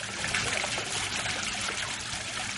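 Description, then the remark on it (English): Water trickles and splashes steadily onto the ground from a fountain on the grounds of Taliesin West, in the dry sagebrush foothills of Arizona, a continuous bubbling patter with no pauses and no voices. “The sound of water hitting the ground is unusual in the dry sagebrush foothills that surround Taliesin West.”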